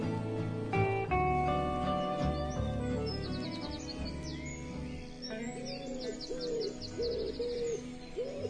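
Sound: birds calling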